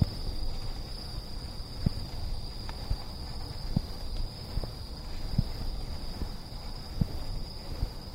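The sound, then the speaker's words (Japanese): Night insects heard from a train being driven fast at night under moonlight, with no street lights, keep up a steady, unbroken high-pitched trill, with a faint second shrill layer above it, over a low rumbling background and occasional soft clicks. No one speaks. “飛ばすと多分もう虫の音があっという間に変わるからな。”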